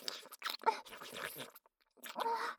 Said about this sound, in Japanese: こうしてあなたと舌を絡めて唾液を交換し合うのも好き。